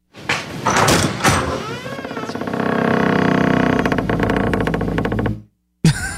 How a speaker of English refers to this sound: So ominous. That was a weird creak, a door creak. It was kind of funny because the door was opening and he's just Negan standing there motionless.